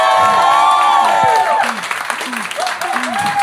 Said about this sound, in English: And keep that applause going as we welcome back